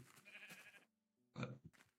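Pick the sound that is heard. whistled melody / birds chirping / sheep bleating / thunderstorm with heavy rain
sheep bleating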